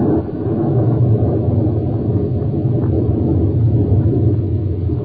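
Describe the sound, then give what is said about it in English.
Rain pours steadily on a roof during a thunderstorm, a dense, unbroken wash of noise with a heavy low rumble underneath, holding the same loud level throughout with no voices. “Listen to that rain on the roof.”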